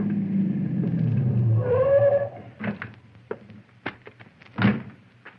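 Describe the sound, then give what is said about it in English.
A car engine rumbles as the car approaches around a curve, rising briefly in pitch as it slows and stops, then a series of sharp clunks and clicks, like car doors opening and shutting. No one speaks. “around the curve, I saw Conestoy's car approaching”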